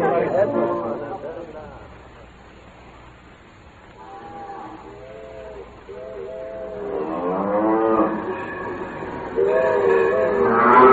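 cattle mooing

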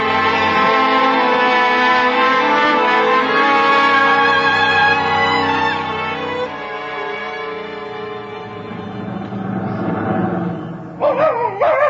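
dog barking

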